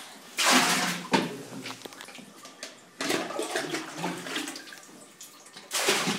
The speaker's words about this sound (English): what we're hearing now is the wife and mother of the family pouring water from a bucket into a water barrel for the whole family